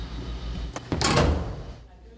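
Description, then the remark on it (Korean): A child presses the button on a book vending machine, which drops a book: a quick mechanical click, then a heavy clunking thud that rattles briefly and fades, over a steady low background rumble. “버튼을 누르자 쿵 하는 소리와 함께 작은 입구 앞으로 뭔가가 떨어지는데요.”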